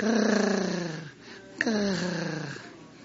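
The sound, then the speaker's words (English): A man's voice imitates a big black-maned lion purring like a house cat, two long, rough, rumbling breaths separated by a brief pause, fairly loud. “But he don't growl. He don't snarl. Just... like your little cat does.”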